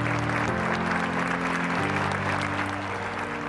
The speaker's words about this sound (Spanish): Y hasta se pone piel chinita al ver ese aplauso, todos de pie, los buenos comentarios.